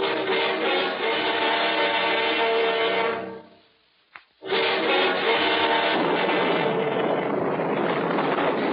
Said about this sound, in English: Below? And miss a storm like this?